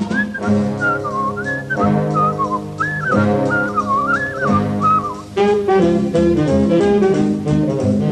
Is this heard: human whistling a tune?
yes